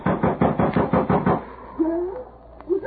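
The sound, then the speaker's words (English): A fist pounds hard and fast on a wooden door, about nine heavy, urgent thuds in quick succession, loud, then the banging stops and only faint, quieter sounds remain. “Ma, in the name of heaven, Ma, unlock the door.”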